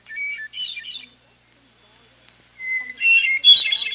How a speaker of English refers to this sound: saw a magical sight I had never seen before, a hermit thrush singing.